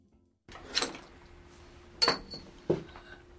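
A thrown wheelchair brake extender clinks metallically three times, sharp bright hits at irregular intervals over a low steady hum, with no talking.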